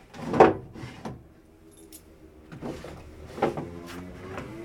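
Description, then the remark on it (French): Wooden knocks and scraping rattles as a sliding board in a hidden double-bottom compartment under a furniture drawer is slid and shifted around, in a few separate bursts, with quieter handling noise between. “En fait, c'est, ce sont des caches sous les tiroirs ou des planches qui coulissent.”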